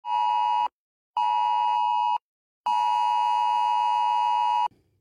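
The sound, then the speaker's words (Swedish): A harsh, steady electronic alarm tone sounds in three loud bursts, the first two shorter with brief gaps and the last one longer: a mobile phone emergency alert, a direct warning of danger from a new crisis alarm system that rescue services can send to phones in an area. “Från och med 1 juli är det här ljudet från mobilen en direkt varning för fara.”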